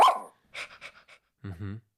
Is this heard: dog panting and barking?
yes